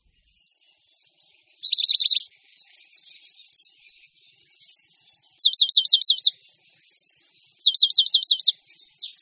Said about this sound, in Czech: Jen vzácně můžeme v přírodě zaslechnout tiché flétnové trilky, hvízdání a vrzání, které tvoří zpěv moudidláčka lužního.